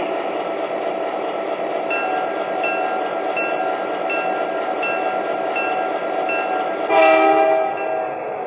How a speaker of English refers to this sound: from Chicago on track one. Train number 111, the Banner Blue.